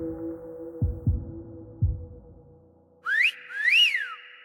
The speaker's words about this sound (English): Robert's mental rant is interrupted by a whistle.